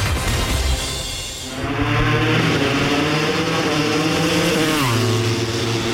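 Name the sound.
motorcycle engines revving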